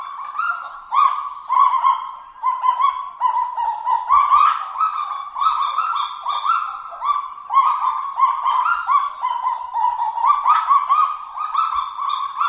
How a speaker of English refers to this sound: A kagu's call, you get a bunch of them together, they sound like a pack of barking chihuahuas, basically.